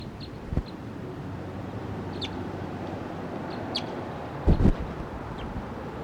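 wild bird calling

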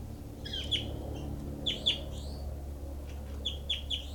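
bird calls

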